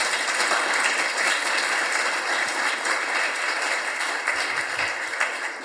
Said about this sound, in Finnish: Annetaan aplodit.